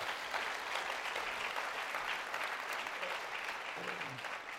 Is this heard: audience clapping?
yes